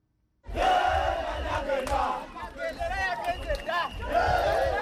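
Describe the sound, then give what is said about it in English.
A large crowd of supporters, decked out in the yellow of the ruling NRM party, cheers and shouts continuously at President Yoweri Museveni's inauguration celebration at the Kololo airstrip in Kampala, with excited voices and whistles rising and falling in a loud, dense roar that fills the whole clip. “Crowds were in high spirits as they made their way to the Kololo airstrip Thursday.”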